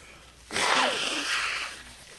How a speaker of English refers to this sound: You got to stop blowing your nose right into the mic. It's got to be awful.